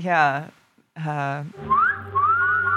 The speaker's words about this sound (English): I do remember being young with my dad, and my parents were married, and him whistling really loudly at women biking by on their 10 speeds, while he was washing the car.